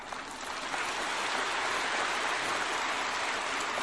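An audience at a Buddhist dharma talk claps in a dense, steady patter of many hands, holding an even level from start to finish with no voices over it.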